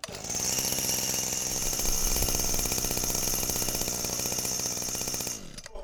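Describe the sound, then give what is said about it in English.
A Makita 25cc petrol two-stroke engine is started for a demonstration and runs loud with a steady, raspy, rattling buzz for about five seconds before abruptly cutting out. No voices are heard. “Just like to demonstrate the 25cc petrol two-stroke engine for you. Just like to start that up now for you.”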